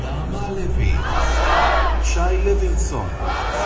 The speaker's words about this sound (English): The crowd screamed now after the reading of the name of each hostage still held in Gaza.